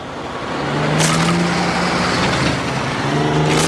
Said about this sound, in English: The truck splinters it. Oh, boy.